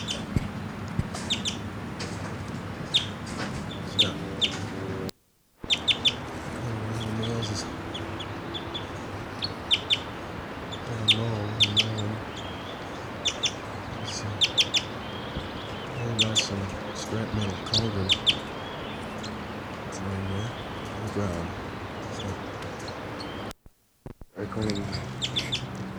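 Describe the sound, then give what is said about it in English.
Birds chitter and call in quick, sharp bursts scattered across the whole stretch, bright, including a male bird chittering in flight over a forest floor, over a steady low murmur that sounds like voices, with two brief dropouts. “That was him chittering in flight.”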